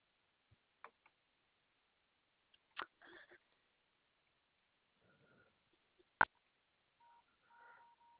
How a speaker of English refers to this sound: Yes, I heard you dialing numbers. No, I know, I'm sorry. I hit the phone. I have it up to my ear, so I hit the button.